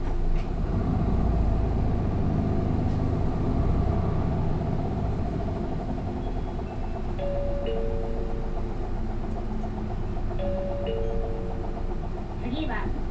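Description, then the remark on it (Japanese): A bus engine rumbles low and steady as the bus pulls away from a stop, filling the whole stretch with dense droning noise, with a couple of brief high electronic tones sounding over it. “発車します。おつかまりください。”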